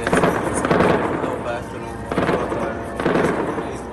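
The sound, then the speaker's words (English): Dense, rapid gunfire crackles almost without pause in the southern Gaza city of Khan Yunis during heavy Israeli bombardment, swelling into louder bursts every second or so, with heavy booming explosions mixed in. The barrage is loud, and faint voices may sit underneath. “Where the southern city of Khan Yunis reverberated with gunfire as it again came under heavy Israeli bombardment.”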